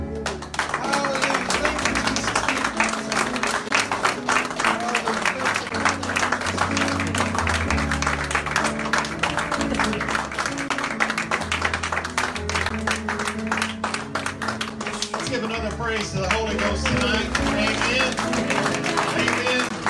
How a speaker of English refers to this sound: Come on, let's give him a praise clap.